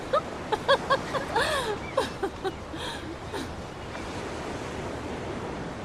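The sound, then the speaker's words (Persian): Steady surf washes in from the sea where people are swimming, a continuous broad roar of breaking waves. For the first few seconds, voices rise above it, then the waves carry on alone. “وقتی هم کلاسی ها دارن درس میخونن ما اینجا تو دریا شنا میکنیم.”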